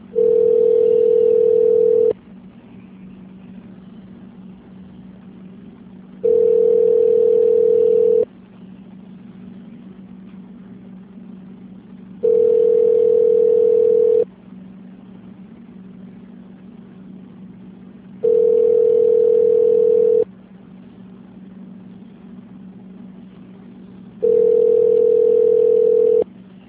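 A telephone ringback tone repeats five times as a call to a company's phone line connects to an extension, each steady ring lasting about two seconds followed by a roughly four-second pause, clear over a faint low hum, with no voices.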